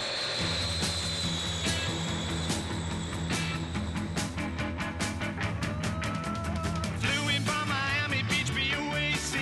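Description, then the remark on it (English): A jet airplane engine roars loudly and steadily at the start of a rock song, blended with driving rock music, pounding drums and guitars, for the whole stretch. “It starts with an airplane.”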